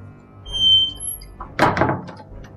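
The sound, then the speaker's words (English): A door opens with a faint high squeak, followed by a solid clunk and a short rattling scrape of the latch or frame, then quiet. “Get the door, Alex.”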